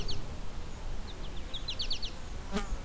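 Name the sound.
birds singing outdoors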